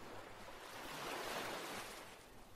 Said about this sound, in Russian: Ощутите разницу между сухим песком и влажным у кромки пляжа, где волна омывает песок.